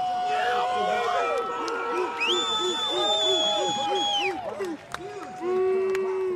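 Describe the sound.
A loud crowd at a diving competition cheers continuously as a diver rips his entry into the water, with shouting voices and high whistles rising and falling over the roar, briefly dipping near the end before surging again.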